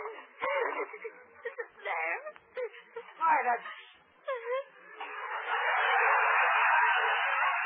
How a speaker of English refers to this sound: Gracie, stop crying. Stop it.